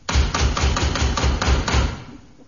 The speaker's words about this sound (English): Sounds like her knock.